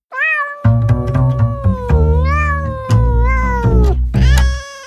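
A cat meows loudly and repeatedly, drawn-out yowls with rising and falling pitch, over a low, steady droning background.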